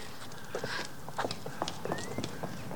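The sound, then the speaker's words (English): A horse's hooves thud unevenly, churning through soft, muddy ground at a steady walking pace as its rider comes down a hill under gathering storm clouds, with a faint hiss of wind or rain behind and no talking. “The horse's hooves churn up the mud as he rides down to meet her.”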